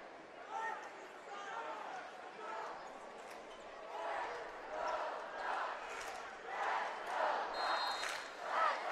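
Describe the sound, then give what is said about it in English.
A crowd of Zeeland West high school basketball fans chants "Let's go Ducks" in rhythmic bursts, voices swelling and fading in a steady cadence, with scattered shouts and the sharp squeak of sneakers on the court underneath. “You hear the Zeeland West fans chant, "Let's go Ducks."”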